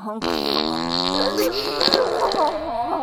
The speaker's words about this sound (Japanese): はい、おならこきます、臭いおなら。 ほら、ブーブー、激臭おなら、